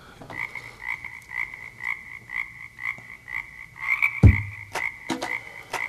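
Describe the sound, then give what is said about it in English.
A toad calls in a steady series of about a dozen short, buzzy croaks, evenly spaced, with a single low thump partway through and no talking. “Mike got the song, the toad.”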